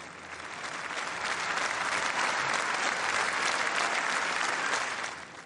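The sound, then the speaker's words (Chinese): A large audience at the 2014 Nobel Peace Prize ceremony in Oslo claps steadily and enthusiastically for the two laureates, a dense, even wash of applause that holds strong for several seconds before tapering slightly at the end, with no speech over it. “我们看到了在现场呢，现场的观众呢为这两位得主热烈欢呼来庆祝的这样的一个场面。”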